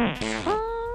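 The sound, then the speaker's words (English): A loud fart sound effect played by a producer, lasting about a second, buzzy and tonal, with a pitch that dips and then rises into a drawn-out squeal before cutting off. No one talks over it. “Like, not farts, no, but burps.”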